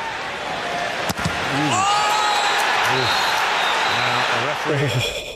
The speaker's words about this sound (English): I'm just going to play the footage of it here, and you can hear the scream from the Arsenal man.